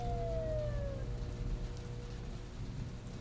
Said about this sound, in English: Just as he was hauling himself up from the thick brown mud, he heard a siren in the distance.